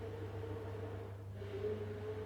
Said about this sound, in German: Alright, ich hoffe, ihr hört es nicht, oder ich höre es gerade mega im Kopfhörer. Ich glaube, Julia hat gerade den Mixer angeschmissen. Wahrscheinlich Healthy Smoothies oder irgendwas.